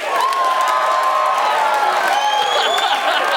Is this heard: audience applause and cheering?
yes